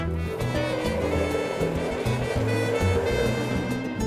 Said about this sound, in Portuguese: Mas dessa vez vamos aprender a fazer essa com uva sem semente para não atrapalhar. Tira elas do cabinho e aí a gente bate ela com um açúcar no liquidificador. Se não fosse suficiente o suco da uva, a gente ajuda com um pouquinho de água, tá?